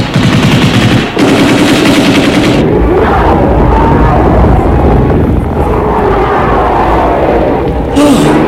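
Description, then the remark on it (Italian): Two loud bursts of rapid machine-gun fire, shot into the air, rattle off in quick succession, each a long continuous stream of shots, followed by a lower, churning commotion with what sounds like voices. “Io sparo una raffica di mitragliatrice in aria per spaventarli e aprirci la strada.”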